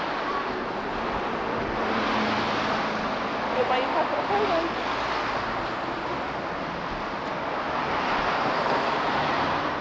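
passing car traffic noise

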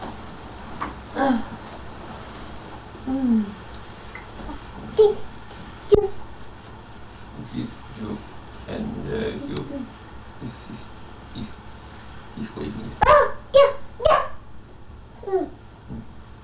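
cat vocalizing

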